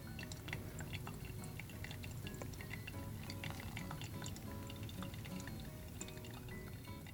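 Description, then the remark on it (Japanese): Hot water poured in a steady, unbroken stream for several seconds over the whole surface, clockwise from the centre outward, as a third pour of 100 cc; a soft bubbling trickle with scattered bright drips and splashes throughout, at an even level with no voices. “お湯は、全体に、中心から外側に向けて、時計回りに注いでいきます。”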